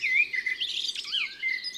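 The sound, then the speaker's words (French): A Eurasian blackbird sings a continuous, fairly loud phrase of warbling, whistled notes with sweeping pitch slides, on its own without any voices. “Comme on disait autrefois, en février, bon merle doit nicher.”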